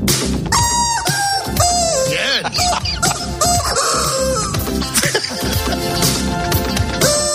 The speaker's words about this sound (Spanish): Insistimos, es un muñequito de goma, un pollito de goma.